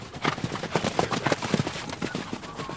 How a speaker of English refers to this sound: Singor guides horses on a gallop around a dirt track.